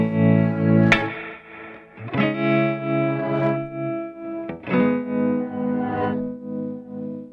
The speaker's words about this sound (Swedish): Du har ju någon form av baklänges grej på gång här. Är det en reverbsvans som du har vänt på eller? Ja, exakt. Det är en reverbsvans som jag har vänt på.